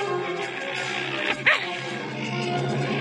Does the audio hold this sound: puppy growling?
yes